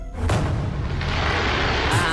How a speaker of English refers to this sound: Someone is letting off fireworks basically on top of our roof at 3:15 on a Tuesday night. That's so random. In this tiny, sleepy little beach town in Italy.